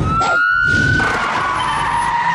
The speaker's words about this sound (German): Na los, Sirene.